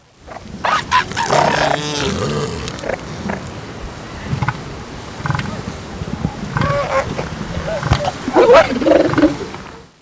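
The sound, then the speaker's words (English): Female elephant seals call in a loud, overlapping chorus: harsh, raspy bellows and groans from several animals, continuing throughout, with some higher squealing cries toward the end. “She'll tell us about the mysteries of elephant seals.”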